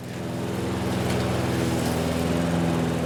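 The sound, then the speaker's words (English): A small gas engine drones steadily, a lawn mower mowing a yard with a rough, buzzing hum that holds constant for a few seconds with no voices. “So when I'm mowing the yard and I get swarmed.”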